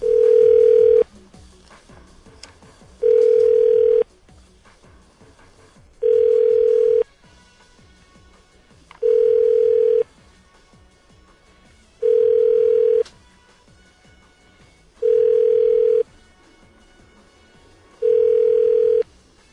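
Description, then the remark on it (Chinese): A telephone ringback tone on an outgoing call to a man's wife repeats seven times at a steady pace, each steady mid-pitched burst lasting about a second with short gaps between, over a faint low background hum and no talking. “对哦， 来，我们小王打给阿芳。”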